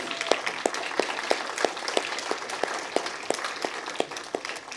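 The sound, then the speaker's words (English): People applauding their kids, with steady overlapping claps and a few sharper, rhythmic hand claps standing out, lasting a few seconds at moderate volume without talk. “And I think we should just give our kids a round of applause.”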